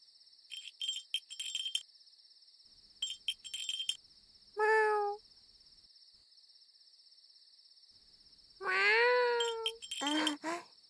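A cat named Nekotaro meows three times, drawn-out and fairly loud, over a steady high-pitched chorus of insects chirping in pulsing bursts throughout.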